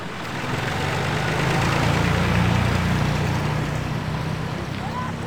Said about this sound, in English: Just arriving at the small olive press in the village, farmers' tractors outside. They brought their olives fresh from the trees